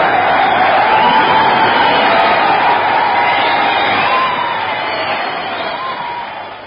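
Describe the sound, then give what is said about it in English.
A large audience applauds in a dense, continuous wash of clapping mixed with crowd noise, loud at first and gradually easing off toward the end, on a BBC Light Programme broadcast, the applause being for BBC announcer Wallace Greenslade. “Hear that applause, dear listener.”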